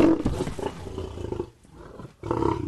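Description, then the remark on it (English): Hercules the liger, a male lion and female tiger cross about 12 feet long and 900 pounds, Guinness World Record holder for biggest feline, roars loudly, a deep rumbling bellow lasting over a second, dropping to a brief low lull before another powerful roar begins. No one speaks. “Hercules the Liger, a cross between a male lion and a female tiger, clocks in at 12 feet long and weighs about 900 pounds.”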